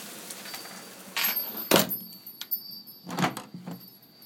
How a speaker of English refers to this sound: And I shall shut this door. And I shall now come in.